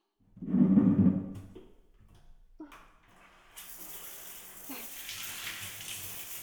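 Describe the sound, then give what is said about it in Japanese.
A few handling knocks and a brief low rumble, then a shower starts spraying halfway through, a steady hiss of running water rinsing off foam and semen that continues to the end with no talking. “それじゃあ、泡と精液、シャワーで流しちゃいましょうね。”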